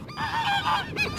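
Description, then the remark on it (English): Several geese honk in a quick, overlapping flurry of nasal calls, fairly loud, with no one speaking. “2 out of 3 geese.”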